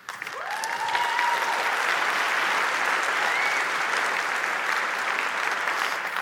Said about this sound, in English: Now, before you applaud too much, this was my idea 20 years ago.